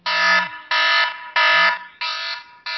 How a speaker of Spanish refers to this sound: Ya sabéis, 10 minutos cada uno. Al final sonará la siguiente alarma.